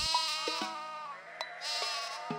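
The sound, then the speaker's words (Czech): A sheep bleats in a long, quavering cry that dips briefly midway and then swells again, with a few faint clicks underneath. “Panda i ovca.”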